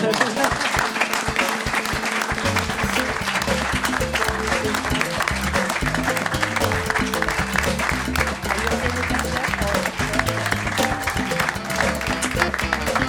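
An audience applauds steadily for the full length, a dense, even wash of many hands clapping at once, with a low murmur of sound running underneath.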